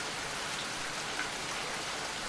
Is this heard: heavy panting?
no